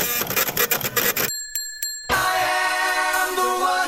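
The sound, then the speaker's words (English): A short musical sting: a loud, rhythmic burst of percussive music, a pause with a sustained bright bell-like tone, then a full, held chord that rings out to the end. “A rare sting indeed.”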